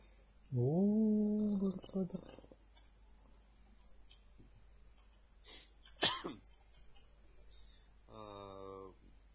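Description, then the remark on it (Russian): After waking up and sitting up, a person gives a drawn-out, strained voiced groan that gives way to two sharp, harsh coughing bursts about half a second apart, followed by another short tonal vocal sound. “Просыпаюсь, сажусь. Долго кашляю.”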